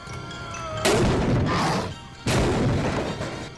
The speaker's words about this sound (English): The soldiers quickly close the doors behind it and then put a beam across it to hold it fast. The creature pounds on the door.